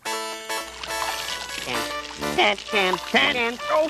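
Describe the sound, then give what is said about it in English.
A shower runs with a steady hiss of spraying water throughout, while a voice rises and falls in vocal sounds over the noise. “I can't even take a shower in peace.”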